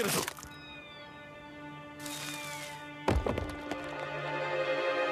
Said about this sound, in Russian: А теперь он ест землю. Так он растение? Ему нужны питательные вещества?